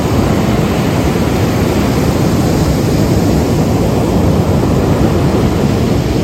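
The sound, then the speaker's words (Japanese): Loud, continuous roar of surf on the beach at Kamogawa, with the Kamogawa Grand Hotel behind, a dense rushing wash of breaking waves with no clear pauses, alone with no voices. “すごい波の音が、 ね、次は鴨川の浜に来ました。”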